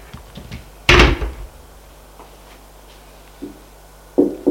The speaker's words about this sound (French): On frappe à la porte du salon.